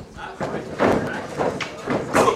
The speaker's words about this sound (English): Another elbow drop from Max Carnage.